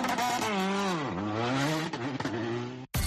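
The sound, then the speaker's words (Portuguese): A rally car engine revs loudly on the rally stage at Xove, its pitch climbing, dipping sharply, then surging again in a continuous roar before a brief cutoff near the end. “Concello de Xove, apostando polo futuro, tamén co deporte do motor.”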